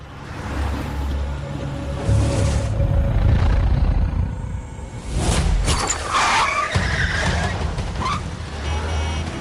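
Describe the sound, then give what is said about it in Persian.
A car engine roars with tires squealing in a skid, then the vehicle revs and pulls away, its noise staying loud and steady throughout with no voices. “هی ماشین رو نگه دار، کجا داری میری؟”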